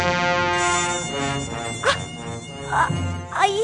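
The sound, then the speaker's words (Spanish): A black, hairy mosquito buzzes loudly, a steady, harmonic-rich whine that swoops upward in pitch a few times as it moves around. No one speaks. “Pero oiga, que si la ha picado un mosquito normal y corriente. Pero era negro y peludo. Trompetero seguro.”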